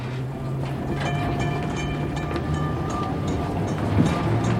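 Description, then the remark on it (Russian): An electric commuter train running steadily, with a constant low motor hum, whining tonal drones and a dense rumble of wheels on track, loud and continuous with no talking. “Главный герой Чунбо садится в переполненную электричку, чтобы добраться до почты.”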